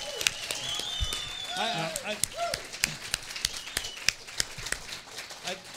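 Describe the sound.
A small group claps in scattered, uneven bursts, sharp and fairly close, while a few voices murmur and call out briefly in the background.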